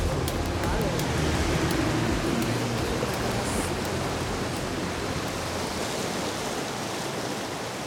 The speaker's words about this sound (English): This is the Aare, one of Switzerland's major rivers, which dissects the Alps, as well as Meiringen and the capital, Bern.